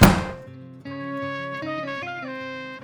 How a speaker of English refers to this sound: I don't give a damn, I say, slamming the door behind me.